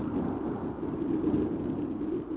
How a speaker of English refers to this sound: Was that thunder?